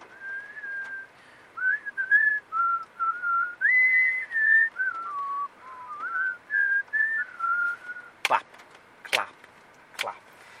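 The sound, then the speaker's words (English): A person whistles a bouncy cartoon-style tune, clear, for about eight seconds, then three sharp, loud knocks or taps follow at the end. “And now you're whistling with... Who whistles that?”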